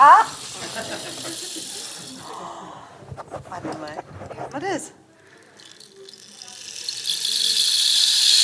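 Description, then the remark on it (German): A rainstick is tipped, giving a soft, continuous hissing patter of trickling beads that swells louder toward the end, with a person speaking briefly in between. “Es ist ein Regenmacher.”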